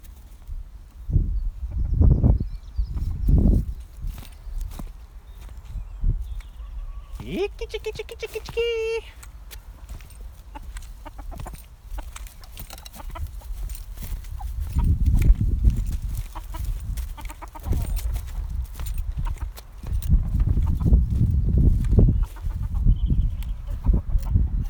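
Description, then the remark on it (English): Hens cluck and murmur, with one brief loud squawking call partway through, over a steady outdoor background with low rumbling thumps and some movement noise. “Anyway, here are the hens.”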